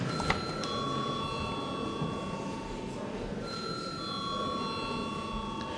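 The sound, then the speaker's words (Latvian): An electric bell in a parliamentary chamber rings continuously for several seconds before a third-reading vote, a steady, bright metallic tone with high overtones, over a low background murmur. “Lūdzu zvanu.”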